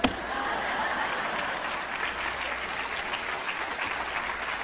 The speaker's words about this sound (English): And the audience did what you just did. They broke out in thunderous applause at a group of innovative teenagers who figured out how to invoke God's blessing on their future, no matter what the court says.